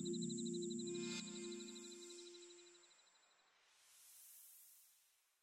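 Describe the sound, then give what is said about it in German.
Grasshoppers chirp in a meadow on a warm summer night, a steady, rapid pulsing buzz over a continuous high trill, with a low hum beneath that fades out, leaving a soft airy hiss near the end. “Und die Heuschrecken singen in warmen Sommernächten auf der Wiese ihr Abendlied.”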